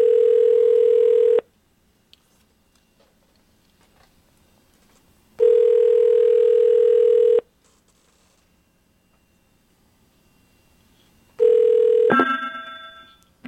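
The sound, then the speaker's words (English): A landline phone ringing on the line during a landline-to-landline call: two long, steady ring tones separated by a few seconds of silence, then a third ring cut short as the call is picked up with a clatter. “And that sounded like a really nice ring you had just now.”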